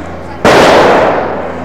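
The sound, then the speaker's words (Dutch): A single strijker firecracker goes off with a sudden, loud bang, followed by a sustained roar of echo and noise that fades only slightly over the next second. “Dat was de strijker.”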